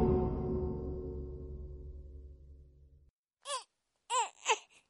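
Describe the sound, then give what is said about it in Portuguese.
A low, steady droning sound fades out, then after a pause a very small baby gives several short, rising-and-falling whimpering cries in quick succession, clear. “Anda, mira canto se queixa agora.”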